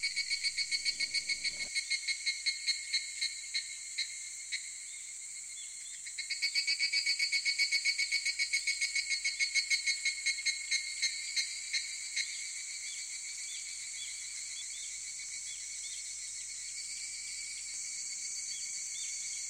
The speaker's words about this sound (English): The sizzling of the cicadas bores into the rock.